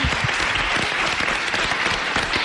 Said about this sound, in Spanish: Bueno, pues un aplauso también para ellas, que lo han hecho estupendamente.